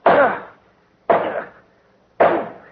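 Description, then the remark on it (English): Three heavy sword strikes chop down at a poisonous snake that slid out from under a silk pillow on the floor, cutting it in half, evenly spaced about a second apart, each a loud, sharp slicing impact with a short fading tail. No voices are heard. “I've cut it in half.”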